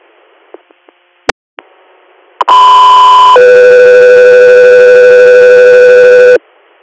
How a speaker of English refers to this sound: Guthrie Air, stand by for tones.